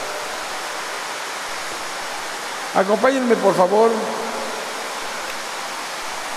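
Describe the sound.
A steady rushing of running water fills the whole recording, loud and unbroken, with a man's voice speaking briefly over it partway through.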